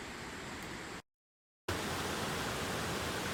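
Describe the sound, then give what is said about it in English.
Steady rushing of creek water in Costa Rica during the rainy season, heard from the middle of the creek; a dense hiss-like roar that cuts out briefly for about half a second, then returns slightly louder. “Where I am sitting right now, I'm in the middle of the creek.”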